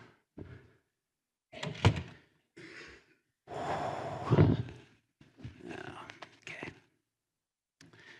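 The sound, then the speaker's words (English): A door is pushed shut with a solid thunk, surrounded by shuffling, creaking movement and a couple of sharper knocks, with soft breathy vocal sounds in between. “Close this door.”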